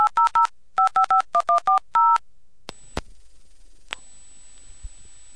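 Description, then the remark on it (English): Quick groups of touch-tone dialing beeps, then a couple of sharp clicks before a thin, steady dial tone drones on alone on a hybrid coin payphone with CO-provided coin control signaling, clear, with no one speaking. “There's my dial tone.”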